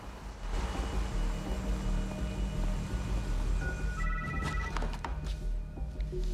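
phone ringing

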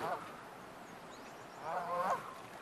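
geese honking

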